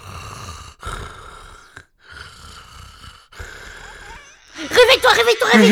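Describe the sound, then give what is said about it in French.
A baby crying, with soft, drawn-out whimpering tones that break into loud, wavering wails near the end. “Ouais, c'est juste un bébé qui pleure, c'est rien !”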